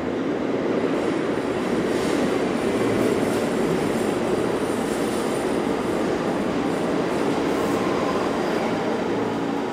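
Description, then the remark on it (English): A train rolls steadily along the rails, a continuous rumble with a dense low roar and faint metallic hiss, holding the same loudness throughout with no voices. “Having the train be literal, what did that make possible for you?”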